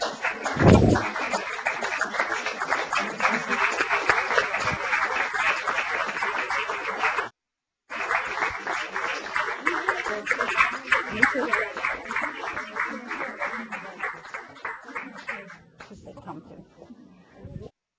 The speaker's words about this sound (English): So please come on up, everybody, so we can really give you a great round of applause.